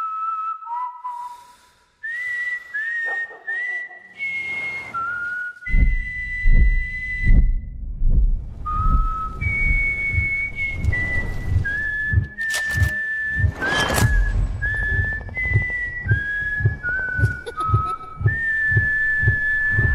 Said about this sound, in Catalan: I aquests xiulets dels himnes, eh?